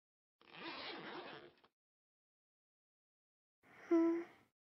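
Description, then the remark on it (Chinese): A trouser zipper is pulled down in one steady, close-up rasp lasting about a second. After a short silence comes a brief voiced murmur or sigh. “自己把裤子拉链拉下来”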